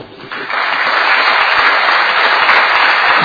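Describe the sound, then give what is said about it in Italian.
A room full of people at a council meeting claps steadily for an honoured guest, the applause swelling quickly after a brief quieter start and holding at a full, even level throughout. “Un grande applauso a Andrea e un ringraziamento anche a Roberto Russi.”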